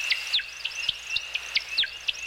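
American woodcock, also nicknamed timberdoodle, display sounds: a rapid series of high, liquid chirps, about three per second, over a thin steady twittering whistle, with no voices.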